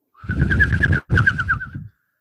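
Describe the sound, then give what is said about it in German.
A voice in a studio imitates a bird's cooing in two breathy bursts over a steady, warbling tone, loud, with a brief pause between them and no other talk. “Wir haben einen Vogel im Studio.”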